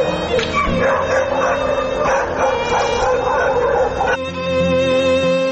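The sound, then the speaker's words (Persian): A pack of stray dogs in Kabul barks and yelps almost without pause, several animals overlapping in a loud, continuous racket with some whimpering mixed in. “سگ های ولگر تا چی حد سبب آزار و اذیت شهروندان کابل شده است؟”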